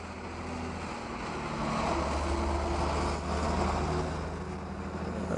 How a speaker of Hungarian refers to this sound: Teherautó.